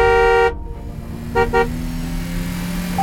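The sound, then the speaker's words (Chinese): A loud, sustained car horn blares over the rumbling engine of a speeding car, cuts off, then two quick short honks follow as the car keeps droning along at speed. “您已超速，您已超速，请注意超速危险。”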